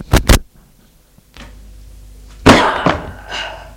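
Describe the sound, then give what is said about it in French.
Two sharp knocks, a pause and a soft scrape, then a loud wooden crash as a chair is thrown by a man at a woman and hits the floor, followed by a couple of smaller clattering bumps. “Et tout à coup, il lui lance la chaise.”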